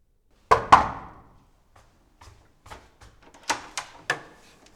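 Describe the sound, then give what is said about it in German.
Two loud, resonant knocks on the door of the Möglich family, followed by a few soft, irregular taps and then three more firm knocks in quick succession. No one speaks. “Ist das nicht die Tür von den Möglichs?”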